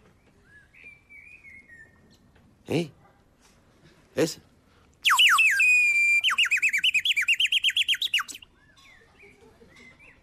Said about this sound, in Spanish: A saber lo que estarán diciendo entre sí, lo que se estarán contando estos pájaros.